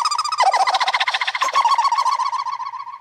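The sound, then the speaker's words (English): Sped-up laughter turned into a fast, chirping, high-pitched chatter, its rapid pulses smeared together by repeating tape echo into a steady, birdlike trill that thins out toward the end. “And this is the same laugh, but sped with tape echo.”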